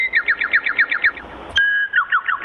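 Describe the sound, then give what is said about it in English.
A service bird chirps in a quick, steady series of bright notes, pauses for one sustained whistle, then resumes chirping. It is clear, with no talking. “It's a service bird. Sorry, like, sir. It communicates for me?”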